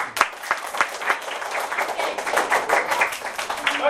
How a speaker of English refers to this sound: Okay, clap up for me.